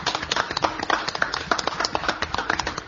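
A crowd at the Fonoplatea claps steadily for guests who came, a dense, irregular patter of many hands that holds at an even, moderate level for about three seconds with no voices over it.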